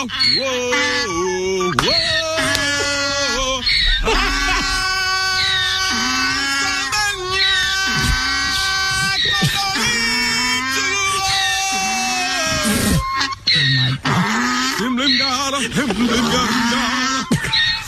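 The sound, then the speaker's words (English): A donkey in a field in South Carolina brays loudly and almost without pause, its harsh, wheezing honks rising and falling in pitch in long, tuneful stretches that sound strung together like a melody. “So it's really just the donkey.”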